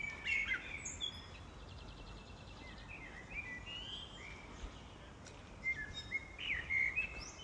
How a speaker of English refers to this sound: So here we go, with some birds.